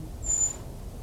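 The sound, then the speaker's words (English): An unseen brown creeper, isolated from a dispersed flock, gives a single thin, very high-pitched, whistle-like call, brief and sibilant, at 1 o'clock on 2 November, rising out of a quiet low outdoor rumble with no voices present. “It's the creeper again.”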